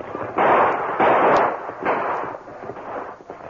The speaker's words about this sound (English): Ranger and Tonto fired intermittently and zigzagged, take advantage of cover as they started up the hill. But halfway to the ridge, they stopped shooting.